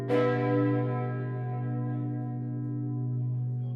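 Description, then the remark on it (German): A single deep church bell strikes once, its rich low hum and shimmering overtones ringing on and slowly fading for several seconds with no voices. “schreibt über die Sprache der Glocken im 19. Jahrhundert.”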